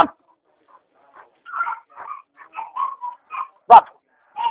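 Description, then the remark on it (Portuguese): A German shepherd whimpers in a string of short, high, whining cries, then lets out one sharp bark near the end, alone with no talking. “Esse pastor alemão, já vou fechando aqui, porque...”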